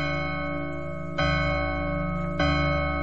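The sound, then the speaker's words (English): A deep, resonant clock chime strikes twice, about a second apart, each stroke swelling out of a long, sustained ringing tone that hangs in the air without any voices, marking the witching hour in a Cinderella story. “Madam! The chimes! The witching hour is nigh!”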